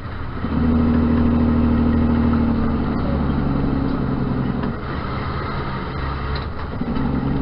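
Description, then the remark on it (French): A Freightliner Inspiration semi truck engine rumbles steadily during a demonstration drive, its deep droning hum holding and shifting slightly as the vehicle drives along, with no voices present. “Compagnie Freightliner Inspiration insiste dans la démonstration camion que camion Inspiration n'yo pas qu'au prête pour yo camion qui roule sans chauffeur.”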